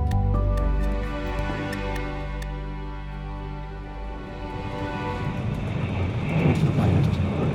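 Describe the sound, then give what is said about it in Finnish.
Steady low rumble of a moving train heard from inside a carriage while travelling to Stockholm, with sustained mechanical hum, faint rhythmic ticking and clicks, and a rising rattling wash of noise toward the end; no one speaks. “Olen junassa matkalla Tukholmaan.”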